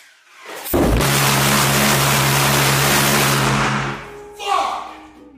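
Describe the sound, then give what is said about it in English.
A pulse jet engine roars to life with an extremely loud, harsh buzzing drone, measured at 150 decibels with a decibel reader near the engine, that holds steady for about three seconds, then cuts off, followed by a brief loud exclamation. “I'm really curious how this pulse jet sounds from far away, as when I put a decibel reader near it, I got 150 decibels”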